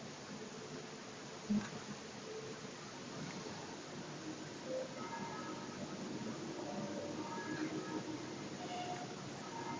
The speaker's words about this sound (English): Train station.